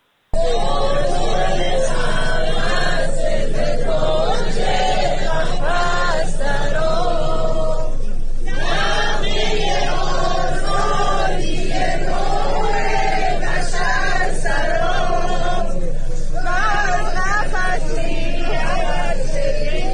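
A large crowd of women sings a slow melody together in unison, their voices loud and sustained, with brief dips between phrases and a dense, continuous wash of sound throughout.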